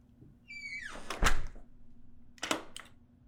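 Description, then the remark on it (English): A door creaks on its hinges and swings shut with a heavy thud, followed a moment later by two sharp metallic clicks of the lock being turned. No one speaks. “Why did I lock the door?”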